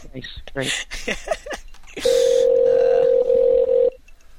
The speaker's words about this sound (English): While the phone's ringing.